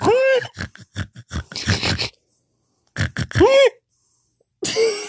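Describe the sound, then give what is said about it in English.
A person vocally imitates a pig, making a string of short snorting grunts in two bursts with a pause between, fairly loud, ending with a brief squeal-like noise. “God, you're really good at animal noises. What's your pig noise?”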